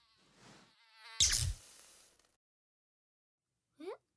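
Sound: housefly buzzing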